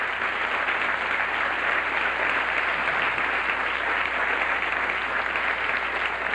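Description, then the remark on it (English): Sustained audience applause welcoming Lucy, a dense, steady wash of many hands clapping at an even loudness for several seconds without letting up, with no voices standing out over it. “We certainly are, and we have with us now, well-deserved applause to Lucy.”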